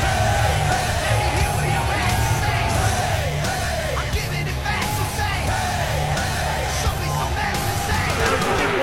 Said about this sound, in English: So the first TikTok was a video of Trump and UFC CEO Dana White walking into this arena, I think in Newark, to what at least sounds like raucous applause.